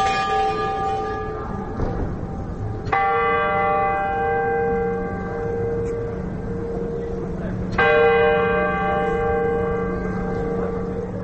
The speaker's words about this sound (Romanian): Revenim în piața Rynek. Aici auzim acele ceasului astronomic din turnul primăriei, care indică ora fixă.